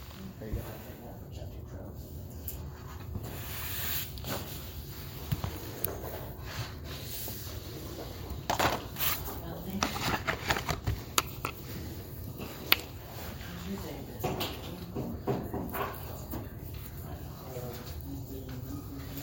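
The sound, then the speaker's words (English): Sheets of paper for a chapter 12 study rustle and shuffle repeatedly as they're passed around a group, a steady stream of crisp crinkles and flaps, with faint murmuring voices. “Okay, so we'll just go ahead and pass them around and send me the extras.”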